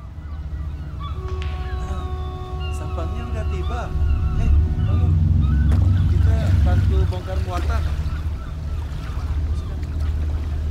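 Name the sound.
boat at sea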